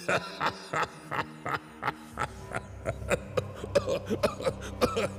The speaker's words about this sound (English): Excuse me, I'm having a bit of a coughing fit.